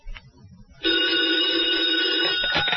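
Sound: telephone ringing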